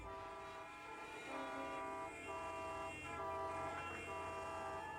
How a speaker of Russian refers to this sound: Проклятие! Опять пробка!